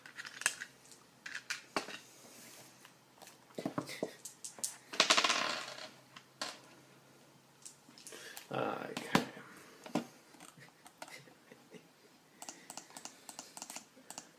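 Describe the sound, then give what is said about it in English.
Dice clatter and rattle across a hard surface in a few quick bursts of sharp clicks, with faint voices murmuring in the background. “Dice, please.”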